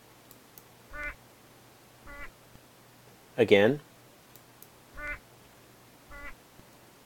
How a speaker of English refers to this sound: First the syllable sung while the bird had juice, followed by the syllable sung while the bird had alcohol. Again. I will now slow the recording to 50% of normal so that the listener may better hear these effects.